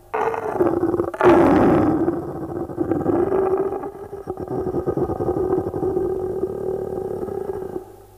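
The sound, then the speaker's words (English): A lion limping on three legs, with a huge thorn stuck in its right forepaw, grunts and roars along a jungle path: a loud, rumbling growl that swells early, then holds as a steady throaty snarl for several seconds before cutting off. No one speaks. “We are in a jungle, and along a path in this jungle, a lion comes limping on three legs, holding up his right forepaw, in which a huge thorn sticks.”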